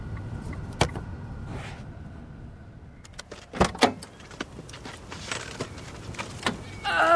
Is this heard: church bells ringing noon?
no